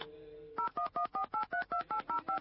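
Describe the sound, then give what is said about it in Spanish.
A quick string of about nine telephone keypad tones, each a short two-pitch beep separated by brief gaps, dialed at a steady pace after a moment of low background hum, as someone dials to place a phone call. “Pero bueno, voy a tratar de llamar por teléfono, a ver si puedo.”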